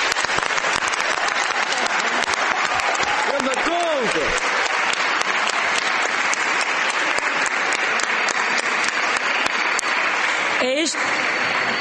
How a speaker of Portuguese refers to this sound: Proponho que aprovemos o texto final por aclamação. Isto é, com grande aplauso, para dar mais força a esta recomendação aprovada a nível nacional.